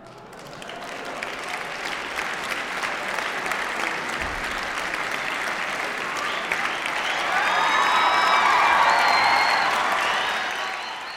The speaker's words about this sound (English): For the record, the cheering you hear means she said yes to his proposal.